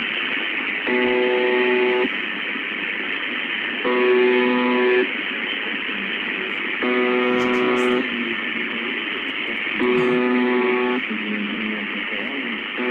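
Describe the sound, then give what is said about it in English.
A low, buzzing alarm sounds in four one-second blasts spaced about three seconds apart, loud and steady, over a constant hissing background noise. “It sounds like an alarm's going off and something's gone wrong.”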